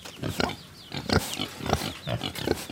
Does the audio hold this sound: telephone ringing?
no